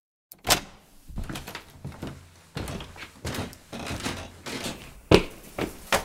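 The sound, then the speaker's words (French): A door is unlocked and opened with a magnetic key card: a sharp click, then rattling latch and handle sounds, and a firm thunk near the end as the door moves. No one speaks. “Matteo ouvre la porte avec une carte magnétique.”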